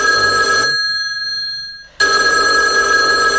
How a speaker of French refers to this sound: Ah, on a le téléphone de la radio qui sonne.